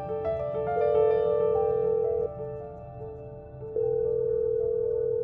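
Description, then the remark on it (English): A steady telephone dial tone hums, its pitch shifting several times as a man dials a number on the phone, with a brief drop in level midway. No one speaks. “Reaching for the phone, he dialed Rachel's number, knowing she'd be waiting.”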